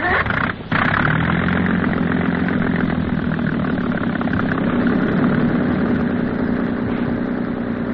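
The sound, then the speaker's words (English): A heavy engine is started and runs, rumbling and droning steadily at an even idle after a brief dip near the start. It stays loud throughout, with no voices. “All right, start the engine.”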